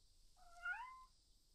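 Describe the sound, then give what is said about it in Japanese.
A single cat meows once, a short rising-and-falling cry lasting under a second, clear against a quiet background with faint low hum. “ん？どうしたの猫ちゃん。ごめんね、私たちの声うるさかった。”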